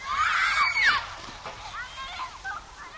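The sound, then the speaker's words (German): Children shriek and shout playfully while water sloshes and splashes around them, the excited voices loudest at first and continuing in a lively outdoor bathing scene. “Wasserratten sind zum einen natürlich die Tiere, zum anderen bezieht sich das Wort aber auch auf Menschen, die so gerne im Wasser sind, dass sie gar nicht mehr rauskommen wollen, wie diese Kinder.”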